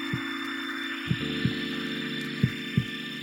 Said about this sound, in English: It begins almost in nothingness, this sort of quiet, you know, crickets chirping. And this heartbeat starts.